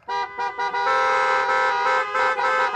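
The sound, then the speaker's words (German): Car horns honking loudly in the queue at the drive-in cinema in Düsseldorf for the World Club Dome Drive-In Edition party, a few short stuttering beeps giving way to a long sustained blare with several horns overlapping, no talking. “Busche Hupe! Busche fucking Hupe!”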